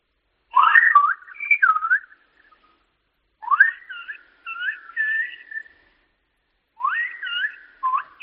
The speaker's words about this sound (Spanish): Vale. Silbo buenos días, buenas tardes y buenas noches.